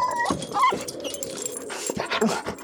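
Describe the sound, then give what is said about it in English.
A dog whimpers inside a kennel lying flipped over on its side in the bed of a truck, letting out short, high-pitched whines among restless scratching of claws against metal and rattling noises over a few seconds. “I can't take your dog.”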